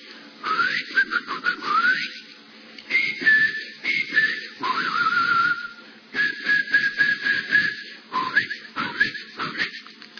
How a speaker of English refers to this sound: At that moment, a bird in the garden begins to sing.